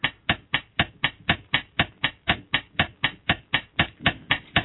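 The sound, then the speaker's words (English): A rubber transfer case shifter boot with a single nipple, a car part, being handled, giving about nineteen sharp, evenly spaced squeezing beats at a quick steady rhythm, fairly loud, with no voices. “Transfer case shifter boot with single nipple.”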